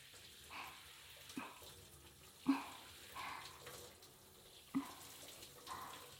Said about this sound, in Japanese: シャワーの加減は、いかがでしょうか？もう少し強い方がいいですか？